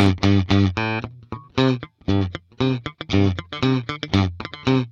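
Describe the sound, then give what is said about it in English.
Bright, twangy country-style guitar picking: a bouncy run of short, sharply plucked notes with a nasal, snappy tone, played loud and alone, with brief gaps between phrases; the twang is produced by the way the guitar is plucked. “and you're producing that twang by the way you're plucking the guitar, maybe the way you've dialed in the different tone wheels and timbres of the instrument.”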